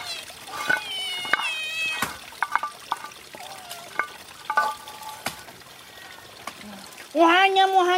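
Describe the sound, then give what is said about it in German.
Several cats meow in short bursts over clinking and scraping as they are fed, ending with one long, loud meow. “Die Katzen werden gefüttert.”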